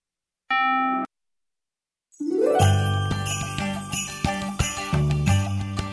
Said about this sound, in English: I hear bells. It must mean one thing. It's Friday. Oh, no. The Friday bells.